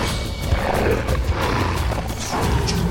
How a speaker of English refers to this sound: All that snarling came after the guy she slapped turned into a wolf the size of a bear and went after her.